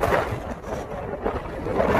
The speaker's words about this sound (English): Listen to those waves, the wind going on. Some pretty gnarly waves too.